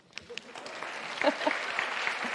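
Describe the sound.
An audience breaks into a round of applause, a dense crackle of many hands clapping that builds and holds steady at a moderate level, with a few brief voices mixed in.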